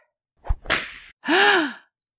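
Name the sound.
whip crack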